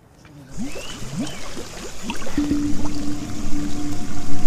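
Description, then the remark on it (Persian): Water runs steadily from an open tap after a brief quiet start, a continuous splashing rush that grows gradually louder and fuller over a few seconds. “بفرما، اینم از مقصر. شیر بازه.”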